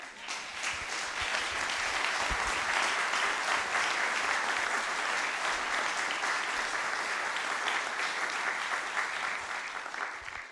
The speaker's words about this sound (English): Would you guys just stand up and be bathed in applause and love?